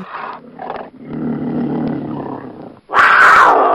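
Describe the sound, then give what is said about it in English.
A big cat growls in a low, rumbling snarl for a few seconds, then lets out a sudden loud roar at the end. No one speaks. “She's a real tiger, a real cougar.”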